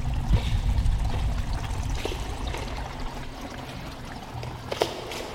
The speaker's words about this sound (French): Alors on est au bord d'un petit ruisseau, près d'une petite cascade et sous une aubépine.